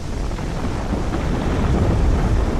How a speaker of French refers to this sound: Puis dans un grondement de tonnerre, la neige déferle, recouvrant les troupes ennemies.